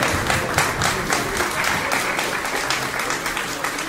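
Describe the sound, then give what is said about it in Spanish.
A crowd breaks into steady, encouraging applause, many hands clapping densely and evenly for several seconds at a fairly loud, sustained level with no speech over it. “Sí, aplausos de ánimo nuevamente.”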